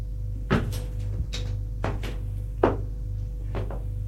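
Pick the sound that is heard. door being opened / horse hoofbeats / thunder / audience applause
door being opened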